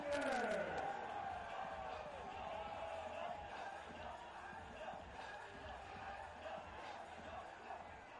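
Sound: baseball stadium crowd cheering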